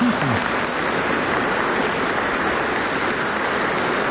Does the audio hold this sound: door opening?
no